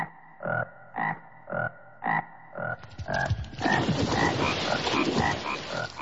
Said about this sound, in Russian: А по ночам они начали пронзительно квакать. Кваканье всех лягушек сливалось и превращалось, как казалось маленьким коротышкам, в какой-то жуткий скрежет.